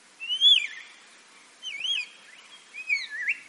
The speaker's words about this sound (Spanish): Nos vamos al desierto del Negev, en Israel, a sumergirnos en el silencio del árido paisaje, a menudo interrumpido por el sonido de este pequeño pájaro.